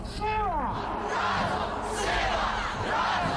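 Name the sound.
crowd chanting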